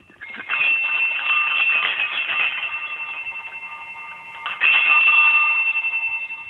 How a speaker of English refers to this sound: These ones are from Italy. They have a hoop that goes from turret to turret, and they're the crotal bells on either side of the hoop, and then we would call a chime in the middle.